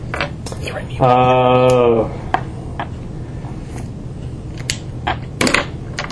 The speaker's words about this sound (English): Trying to do something cool with dice.